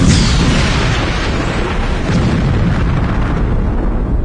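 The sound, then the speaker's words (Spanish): A loud gas flare-up erupts with a bright whooshing burst as a lighter is brought near after a loose gas regulator is turned, then settles into a dense, sustained roar of flame that rumbles steadily for several seconds, with no voices. “Química en llamas. Totalmente. Flamas por doquier.”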